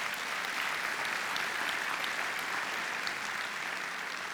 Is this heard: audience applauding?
yes